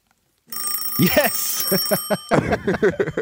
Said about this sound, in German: Also, diese Glocke hier auf dem Schreibtisch, die wackelt so richtig hin und her, weil das so ein Schwung ist, die rutscht hier so auf dem Schreibtisch hin und her.